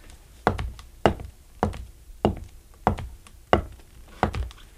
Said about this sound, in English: What we do is a heel and toe. Okay. Now, I'm walking right in place. See, I'm not going forward at all. I'm standing absolutely stationary.